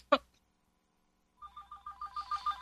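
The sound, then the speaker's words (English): A telephone starts ringing after a sharp click, its electronic tone pulsing in quick repeated bursts that grow steadily louder over a couple of seconds. “take the phone off the hook.”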